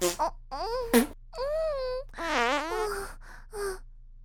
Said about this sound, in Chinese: 这么一放屁，屁股沟那里就更痒了。